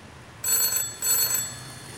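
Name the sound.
telephone ringing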